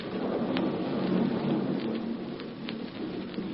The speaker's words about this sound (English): the storm is stopping.